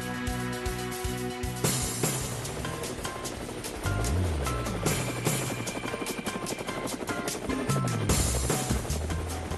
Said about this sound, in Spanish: Pero ahora llegó el helicóptero, ahí están las aspas del helicóptero escuchándose.